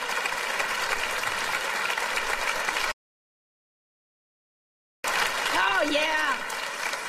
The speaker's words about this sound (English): Round of applause for our couple and our negotiator. Thank you.